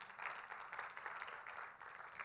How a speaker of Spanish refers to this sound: ¿Quién le da un fuerte aplauso al Señor por eso?